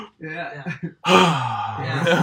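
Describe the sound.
A person vocally imitates the audible gasp of a whole room of people watching a screen: a short breathy voiced intake, a pause, then a longer, louder rushing gasp held for over a second, clear with no words.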